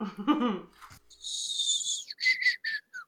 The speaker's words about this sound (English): Oh, whistle you a song between my teeth.